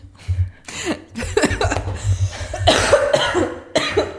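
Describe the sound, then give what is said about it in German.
A series of harsh coughs in quick succession, several bursts over a few seconds with a brief chuckle mixed in, loud and rough. “Zeit für Hustensirup.”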